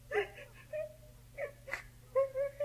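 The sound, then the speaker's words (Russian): A girl of about seven, walking along a road, cries and whimpers in short, wavering high-pitched whines, broken by a sharp sniffling gasp midway, fairly loud, with no other voices. “Девочка, ты чего плачешь?”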